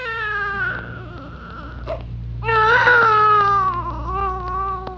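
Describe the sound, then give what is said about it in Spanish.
A baby cries in long, wavering wails, fairly loud, with a brief gasp between two drawn-out sobs and the second cry rising more intensely before tapering off. “¿De dónde viene ese llanto?”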